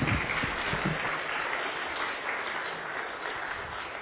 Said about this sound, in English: Thank you very much, girls. Good job. Now we can have a round of applause for them all. Good job.